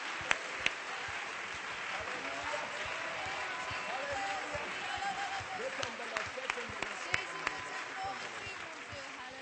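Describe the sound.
A church audience claps steadily in praise of the Lord for several seconds, a dense wash of many hands with a few sharp, louder claps standing out, mingled with faint voices and cheering.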